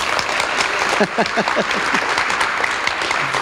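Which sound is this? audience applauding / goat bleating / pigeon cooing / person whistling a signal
audience applauding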